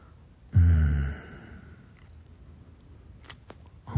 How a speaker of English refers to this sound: You're breathing. Getting louder.